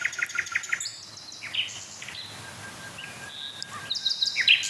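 nightingales singing

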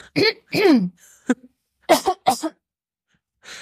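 throat clearing

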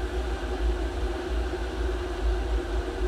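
water boiling

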